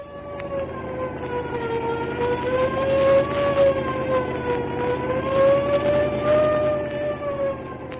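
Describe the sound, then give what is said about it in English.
A police squad car siren, on the way to the waterfront, wails loudly and continuously, its pitch slowly rising and falling in long sweeps over a low rumble of engine noise. “I cut the siren so if the gang has a job on for tonight, we won't scare them away.”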